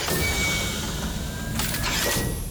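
Heavy mechanical bunker doors grind open with a loud, steady rumble and hiss, swelling with brighter scraping surges near the end. No one speaks.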